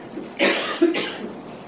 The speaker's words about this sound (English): Or maybe someone coughs, and that sound captures your attention.